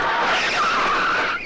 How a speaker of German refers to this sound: Pass auf, ein Auto!